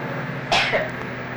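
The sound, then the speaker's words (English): A single short cough to clear the throat, a sharp burst followed by a softer second huff, heard against a steady low background hum. “Cough. Louder, please. Cough.”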